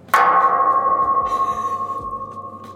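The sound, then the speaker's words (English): A single sharp metallic clang as a golf ball strikes the metal border fence at Eagle Pass, leaving a long bell-like ringing tone that slowly fades, with a faint rustle partway through. “That's what it sounds like when a golf ball hits the border fence.”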